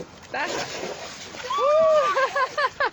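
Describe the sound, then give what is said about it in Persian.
A boat made from a barrel cut in half hits the river water with a short, broad sloshing splash, then children's excited voices ring out loudly over the water as they play. “آره، یه بشکه که سر نصفش کردم بشکه رو، مثل قایق ازش استفاده میکنم. بله. بازی میکنم. میندازن تو آب؟ بله، میندازن تو آب و بازی میکنم.”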